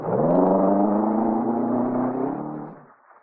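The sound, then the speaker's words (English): A car engine revs hard and pulls away as the driver speeds off at the start of a chase, its steady droning tone climbing slightly in pitch for about three seconds before cutting off abruptly. No voices are heard. “I run back into my room, down the fire escape into my car.”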